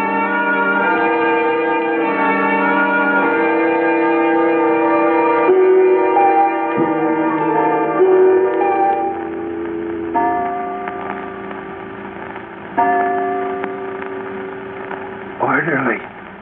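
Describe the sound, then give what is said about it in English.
A clock strikes three o'clock with a series of resonant, ringing strokes whose tones overlap and hum on, closing with a brief wavering sound near the end. “3 o'clock.”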